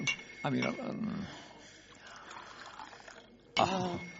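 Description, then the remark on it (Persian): Water trickles steadily into a glass for a couple of seconds, a soft pouring sound framed by brief vocal sounds before and after, as water is poured for someone to drink. “میشه کمی آب به من بدی؟ البته.”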